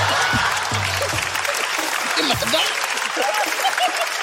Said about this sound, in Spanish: Un fuerte aplauso para mi amigo el tiburón. Fuerte, fuerte para tiburón, sí.